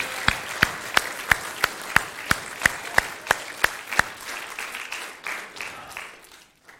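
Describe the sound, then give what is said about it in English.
An audience applauds for the Lord in steady, rhythmic unison, about a dozen sharp claps over a bed of scattered clapping, then the beat breaks up and the applause fades out. “Let's just give the Lord a clap.”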